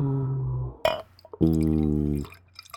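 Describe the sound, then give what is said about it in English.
Dark beer glugs out of a foiled 22-ounce bottle into a glass, with a sharp clink of glass partway through and deep gurgling pulses as the liquid pours, no talking. “It's dark. I can't even see through it when I'm pouring.”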